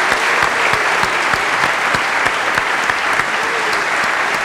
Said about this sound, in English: And can we have one last round of applause for all the contributors tonight, the questions, and for Ben.